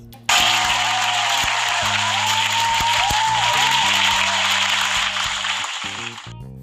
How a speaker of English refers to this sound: So round of applause to me.